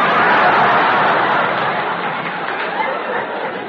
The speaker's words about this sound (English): Leaving all this muck to mire, we proceed to Canal Street. It is Mardi Gras Day, and we hear the shouts of the thousands of merrymakers. Hooray!